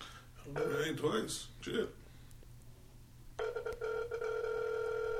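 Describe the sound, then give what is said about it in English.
A phone line rings out with a steady, droning ringback tone as a caller waits for someone who isn't answering. The tone starts abruptly partway through and holds to the end, following a brief burst of a voice at the start. “Why she ain't answering the phone?”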